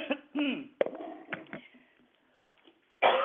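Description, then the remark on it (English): A person coughs several times in a rough, irregular series of harsh bursts, then falls quiet for a moment before one last loud cough. “Nothing is happening, excuse me, nothing is happening like this cough.”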